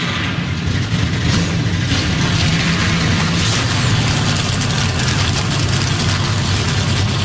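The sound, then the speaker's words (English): A loud, continuous roar of race car engines firing up together after Matthew McConaughey's 'Drivers, start your engines' command, a deep rumbling drone with raspy high-end buzz that holds steady for several seconds, with no voices. “Drivers, start your engines. Crank them up, King. Crank them up.”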